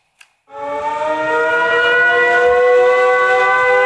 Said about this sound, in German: Gerade eben hat das Publikum noch einem Konzert gelauscht. Jetzt müssen alle in den Bunker. Bombenalarm.